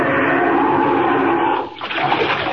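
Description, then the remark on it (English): A loud rush of churning water as Superman plunges down into the sea among Arctic icebergs, swallowed by it, with a brief lull before the bubbling surge resumes. No voices. “Down, down, right into the water.”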